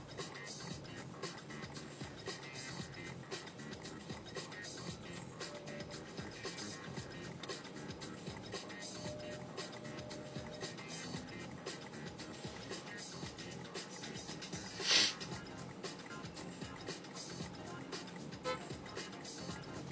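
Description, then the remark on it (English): A bus engine rumbles steadily and low for the whole stretch, a dense mechanical drone with rattly texture, broken once by a short, sharp hiss or clank that rises above it. “This bus is really, really fucking me over.”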